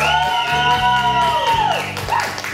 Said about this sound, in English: Those are louder applause than I get, and already it's unfair.